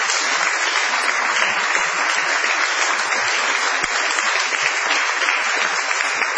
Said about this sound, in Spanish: Vamos a extender el aplauso inicial saludando a Patricio Barton.